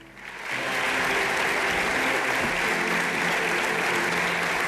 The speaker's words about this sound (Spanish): Los aplausos en ese interior